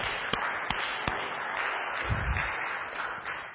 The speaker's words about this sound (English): So we just want to, should we just give the Lord a clap for that? Thank you, Lord Jesus.